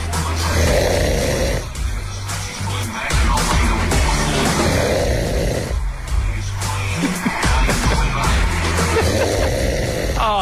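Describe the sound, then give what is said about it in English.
A husband snores loudly in harsh, rasping breaths that repeat every few seconds, over the steady blare of a television that sounds like a sports broadcast. “Seriously, old mate's just gone in the middle of the TV blaring with what sounds like sport at a time when sport should be one of the most exciting things left in the world right now.”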